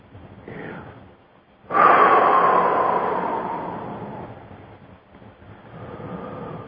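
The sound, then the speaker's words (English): Deep breathing: a soft breath, then a sudden, long, airy rush of breath that slowly fades, followed by another gentler breath. No one speaks. “Open up your chest. It's been a long time since you've had some good deep breathing.”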